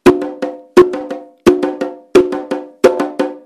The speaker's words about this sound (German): Sie wird mit drei Trommeln gespielt. Das ist der Chico. Diese Trommel ist der Grundrhythmus, der Motor des ganzen Candombes. Hört sich so an.